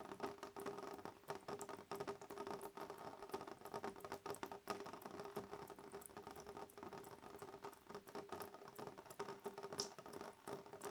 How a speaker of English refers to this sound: The chorus of pitter-patter as each individual sound of each individual raindrop gently strikes against the window.